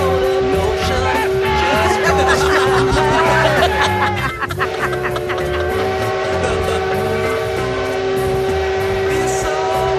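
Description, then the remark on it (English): A steam train chugs along steadily while a loud, sustained horn or whistle blows, holding a steady tone that briefly dips midway before sounding again, with faint voices underneath. “I think the number of times a man blows a horn on a train is in direct correlation to the lack of size in his smaller the longer he blows.”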